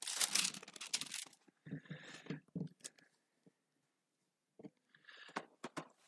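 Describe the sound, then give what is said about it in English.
Thin Bible pages rustling and crinkling in several bursts as people turn to Isaiah chapter 9, dense at the start, then intermittent soft flicks with a quiet pause before more page turning near the end. “As long as I still hear pages rustling, I know I still have time.”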